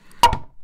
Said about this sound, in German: wir haben ein Holz genommen und an so einen Mörser, also so ein andersrum. Ein Mörser an ein Holz geschlagen, das klingt so.